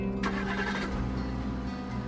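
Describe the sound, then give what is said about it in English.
A car engine catches with a sharp burst of noise, then settles into a steady, low, rumbling idle with no voices, in the dark early morning on Clifton Road. “The only sound is the engine, a lullaby thrum in the soft dark.”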